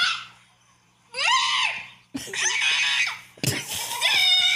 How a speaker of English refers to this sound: Dad, like, he screams, but it looks so crazy. Watch this. Just watch what we're talking about.